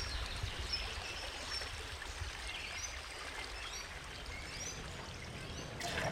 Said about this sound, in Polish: Tak, woda ze studni zawsze zimna. Kazimierska źródrana, ktoś pije kranówkę, jak najbardziej tu można korzystać. Znajdujemy się na rynku głównym w Kazimierzu. Stoimy przy Kazimierskiej studni